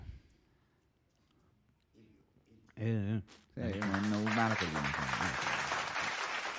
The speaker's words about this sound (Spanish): Pero quizá aplaudían.